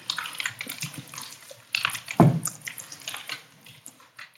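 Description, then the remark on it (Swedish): Water runs steadily with splashy, uneven bursts, as if from a tap or filling basin, with a sharper clatter midway, heard in the background of an emergency (SOS) phone call; no one speaks. “Man hör vattnet på ett ställe.”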